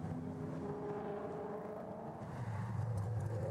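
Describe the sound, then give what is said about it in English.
About 23 race cars drone steadily at a moderate, restrained pace behind a Cadillac safety car after a very short run, a continuous mechanical hum with a tone that rises slightly near the end. No voices are heard. “So everyone closes up behind the Cadillac safety car after a very short run.”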